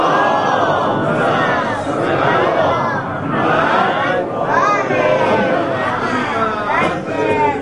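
A large crowd at a religious gathering recites a salawat together, many voices blending into a loud, continuous unison chant with rising and falling phrases that fills the whole stretch without pause.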